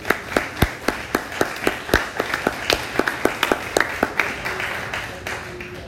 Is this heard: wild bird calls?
no